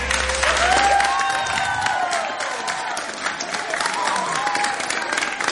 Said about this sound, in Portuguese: Esta salva de palmas é para as irmãzinhas de Jesus que com tanto carinho fizeram à mão cada um destes meninos Jesus, cada uma destas imagens.